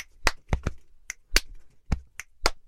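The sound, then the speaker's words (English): A quick body-percussion beat made by one person: sharp claps, finger clicks and dull thumps from banging on the chest repeat in a steady, loose rhythm, fairly loud, with no talking. “That's me banging my chest, doing a little click and then a couple of claps.”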